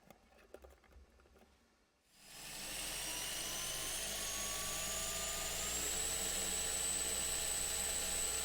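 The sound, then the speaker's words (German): After a couple of seconds of faint clicking, an electric L-motor for a drone, set on a scale to measure how much it lifts, spins up into a loud, steady whirring roar, its high whine rising slightly in pitch and holding. “Der L-Motor ist der mehr Pepo-Fett.”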